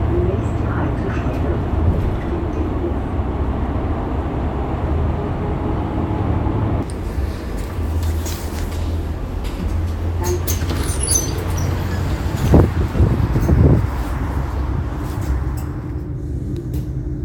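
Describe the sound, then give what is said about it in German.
Steady low engine drone and road rumble inside a moving bus in Hamburg, with a shift in the noise midway and a few sharp rattles and clunks near the end; faint indistinct voices murmur underneath. “Im Bus auch nicht.”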